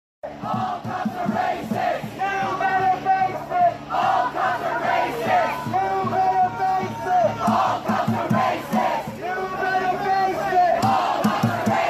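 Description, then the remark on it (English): Hundreds of protesters marching down a street, guarded by police, chant in unison, voices rising and falling in a steady, repeating rhythm, loud and continuous throughout, many shouting "all cops are racist" together as they march. “So there they are marching down the street, hundreds of them, shouting all cops are racist while being protected by the cops.”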